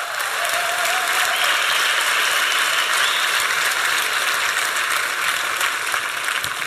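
A crowd claps loudly and steadily, a dense, even wash of many hands that holds at the same level for several seconds with no voices over it.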